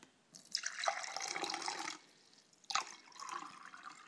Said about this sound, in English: So I'm just literally going to pour this milk in here.